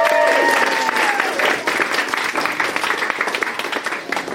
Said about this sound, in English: Round of applause.